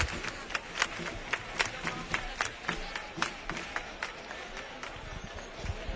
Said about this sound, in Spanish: A las miles de personas que hay aquí en este momento. Escuchamos las palmas.